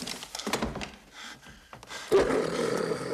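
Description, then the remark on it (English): A wolf's rough, throaty snarl swells suddenly inside a room after a few soft knocks and rustles, growing loud and gravelly and holding to the end. “He goes to run out of the room, but hears the snarl of a wolf.”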